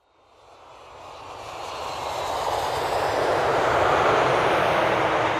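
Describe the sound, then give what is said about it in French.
A steady airplane engine roar swells from quiet to loud over a few seconds, a broad rushing drone like a jet powering up for takeoff, on a flight to Paris, with no voices. “C'est la première fois que Clara prend l'avion toute seule.”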